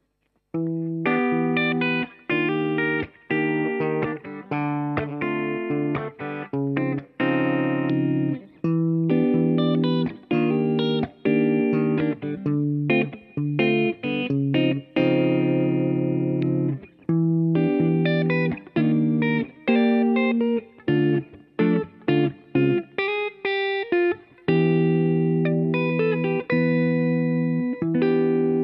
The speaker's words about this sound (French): Histoire d'ajouter un petit peu d'espace, je vais maintenant activer une reverb de type hall stéréo. Voilà, ça va nous donner ça.